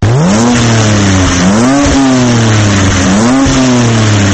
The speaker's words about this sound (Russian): Ревет мотор внедорожника нового поколения BMW X3.